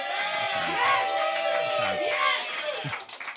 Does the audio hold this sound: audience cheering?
yes